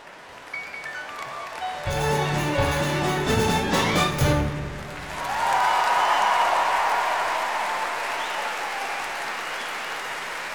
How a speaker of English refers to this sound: Maintain and enhance your applause for the indescribably wonderful boy with tape on his face.